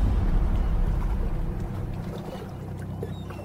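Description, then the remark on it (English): A mostly empty ferry boat churns through the water, its deep, steady engine rumble and wash loud at first, then easing slightly. No one speaks. “Interior, ferry boat, day.”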